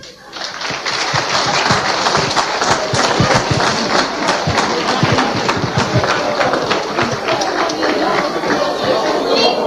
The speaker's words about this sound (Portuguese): Por isso, peço uma enorme salva de palmas para todos vocês.